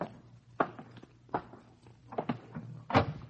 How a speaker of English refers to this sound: Open the door, George.